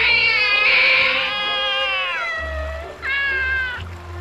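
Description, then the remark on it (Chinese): A lion cub, one of Elsa's cubs, cries plaintively on the opposite bank of a river, pacing back and forth, in two drawn-out, wavering high-pitched calls, a long mewling wail followed by a shorter one, over a low background rumble. “我顺着艾莎的声音到了营房附近的树林，在干季的时候，这里是一片辽阔的沙滩，而艾莎正带着一只小狮子站在那，有一只才从河里出来，另一只则是在对岸来来回回凄凄惨惨地叫着。”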